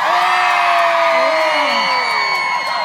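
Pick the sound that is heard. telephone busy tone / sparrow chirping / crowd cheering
crowd cheering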